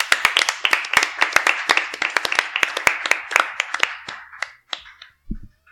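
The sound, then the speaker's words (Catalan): A crowd applauds for the radio programme Ràdio Caliu at the start of its new season, with dense, rapid hand claps that stay loud for about four seconds, then thin out into a few scattered claps before fading. “Un fort aplaudiment per Ràdio Caliu, la teniu divers, sisplau.”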